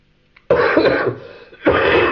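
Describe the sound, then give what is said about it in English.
Two harsh coughs, a long rough burst followed by a short pause and a second forceful hack, loud and breathy with no talking. “That was just coughs.”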